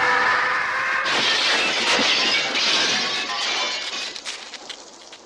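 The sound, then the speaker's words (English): Window glass smashes with a loud, bright crash as a bad guy with a knife lunges through a window during a bar fight scene in the 1980 film The Ninth Configuration, followed by a long scatter of tinkling, clinking shards that gradually thin out and fade over several seconds. No voices are heard. “During a bar fight scene, a bad guy with a knife lunges through a window.”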